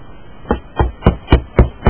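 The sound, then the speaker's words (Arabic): Six evenly spaced, polite knocks on the door of a doctor's upper-floor residence in a rural clinic building, each a sharp, solid thud with a short low-end boom, steady in rhythm and moderately loud, with no voices. “ومن ثم صعدت في السلم المتحطم إلى الطابق العلوي حيث سكن الطبيب، وقرأت الباب في كياسة.”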